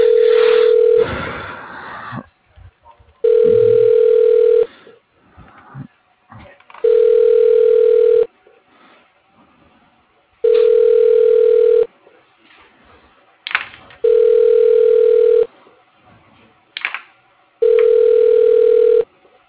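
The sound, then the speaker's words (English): An outgoing phone call to a lawn sprinkling company, its ringback tone repeating six times, each steady electronic burst lasting about a second and a half with short pauses between, with faint line noise and no voices. “Yeah, give him a ring.”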